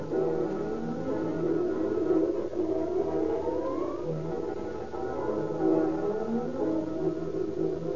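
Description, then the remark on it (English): Sirens of several fire engines, chemical cars and battle wagons racing through deserted streets to a fire at the Edison Company's garage on East 1st Street wail at once, their overlapping tones rising and falling in long sweeping glides, loud and continuous throughout with no voices. “Fire engines, chemical cars, and long, sleek battle wagons fly screaming through the deserted streets.”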